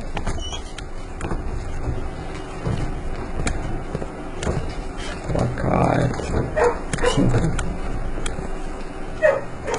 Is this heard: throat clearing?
no